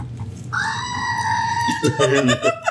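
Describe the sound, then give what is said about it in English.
A loud screaming goat sound effect played from a button: one long strained human-like cry that holds for over a second, then breaks into rough wavering sounds with voices overlapping at the end. “Better hit that goat.”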